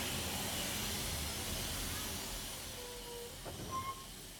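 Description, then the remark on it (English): A steam train hisses steadily as it comes to a halt at a station, with faint squealing brake tones and a soft clunk near the end, fairly loud and continuous with no voices. “It stops at the station.”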